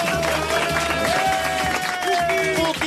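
A studio audience breaks into loud, sustained applause and cheering, dense, with a tonal musical sting running underneath throughout.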